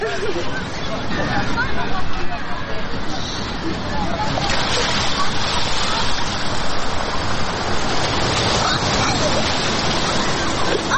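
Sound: water surging and splashing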